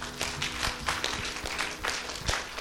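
An audience in Dallas claps together in a steady, dense patter of many hands, with sharper individual claps popping out now and then, holding an even loudness throughout with no talking.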